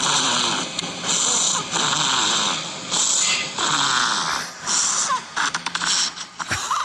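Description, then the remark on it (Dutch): A hibernating hazel dormouse in deep winter sleep, snoring and grunting: rhythmic, raspy wheezing breaths in repeated bursts of about half a second, with short snorting grunts and clicks toward the end, no voices. “De slapende hazelmuis.”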